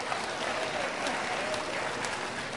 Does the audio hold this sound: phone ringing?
no